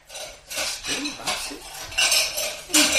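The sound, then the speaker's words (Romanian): Dishes and cutlery clatter in a steady series of bright, jangling bursts, fairly loud, as someone washes the dishes at a sink, with no talking. “Cred că rostul meu e să spăl vasele.”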